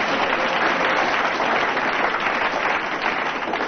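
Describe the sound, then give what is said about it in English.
An audience applauds in a steady, dense wash of clapping that holds at a fairly loud, even level for the whole few seconds, with no voices over it. “I thought you'd have got more applause from the audience, but...”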